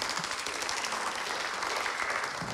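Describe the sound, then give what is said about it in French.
An audience at a workshop applauds a speaker steadily, a dense wash of many hands clapping at an even, sustained level with no pauses. “On peut applaudir aussi.”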